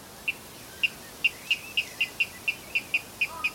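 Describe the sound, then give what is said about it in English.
A water rail calls in a steady series of about a dozen sharp, high 'kip' notes that quicken slightly, clear against a faint, quiet background hiss. “He had learned the song of the water rail from tapes that his father had been playing to him for several years.”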